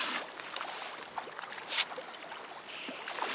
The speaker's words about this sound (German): Forellenfütterung in der Fischzuchtanlage Rameil in Nordhessen. In 18 großen Becken, jedes 120 Meter lang und 10 Meter breit, wachsen die Fische auf. Die Becken werden ständig vom klaren, kühlen Wasser des nahen Flusses Eder durchströmt.